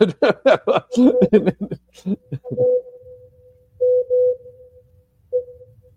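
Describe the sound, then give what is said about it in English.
A short burst of laughter and voices gives way to a steady mid-pitched tone broken into distinct Morse code beeps: a quick cluster of three, a pause, then one more short beep. “This is Morse code, isn't it?”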